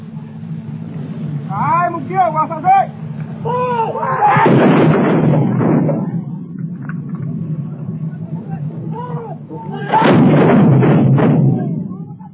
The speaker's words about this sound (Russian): Документальные записи, сделанные в сражающихся джунглях. Батарея патриотов ведет огонь по врагу.